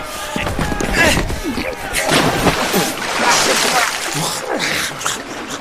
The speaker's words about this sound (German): Noch immer lagen zwei Männer raufend übereinander und schienen keinerlei Erbarmen miteinander zu kennen. Dann trat der erste Mart, Arrow, hinzu und schüttete einen Eimer Wasser über den beiden Streitenden.